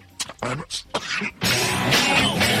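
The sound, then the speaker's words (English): A man's run of short, harsh coughs, several bursts in quick succession, followed by a longer, rougher stretch of hacking that continues without pause. “He just starts coughing.”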